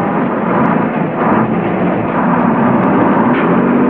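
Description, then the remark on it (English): A heavy truck engine being started rumbles loudly and steadily, a continuous deep roar that holds for several seconds with no voices. “He starts the truck.”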